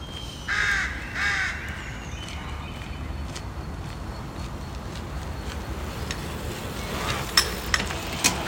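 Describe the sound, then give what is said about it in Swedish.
Two loud, harsh caws from rooks in Skåne, Sweden, in quick succession early on, then steady background hum with a few faint clicks and taps near the end; nobody speaks. “Och tuffa vinterperioder kan de skånska råkorna dra sydväst ett slag och komma tillbaka när det tinar igen.”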